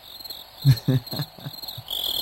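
cricket chirping loudly

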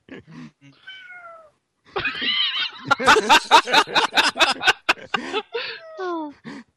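cat meowing

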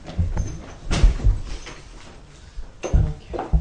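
door being opened

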